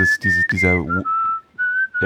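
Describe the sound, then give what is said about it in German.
A voice whistles an imitation of the melody of a sample from a song in a clear, steady, fairly high tone, holding long notes with small pitch steps, while bursts of humming overlap at the start and end. “Oh, das ist echt schlecht, dass wir alle hier jetzt rumpfeifen und summen, aber irgendwie muss man es ja doch bemerken, es ist immer wieder Quatsch, über Musik einfach nur zu sprechen.”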